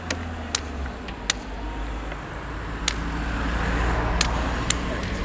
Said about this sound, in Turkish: Şimdi bir ara sokak var. İki tane araba çıkıyor.